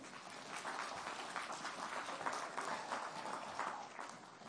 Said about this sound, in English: I never get applause. Well, all they did was carry a box.